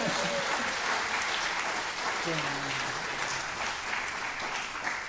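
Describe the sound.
A crowd claps steadily and loudly for several seconds at a baptism, a dense wash of applause, while a voice speaks briefly over it.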